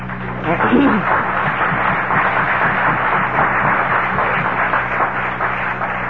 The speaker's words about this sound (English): You're not applauding me because you're applauding Alcoholics Anonymous.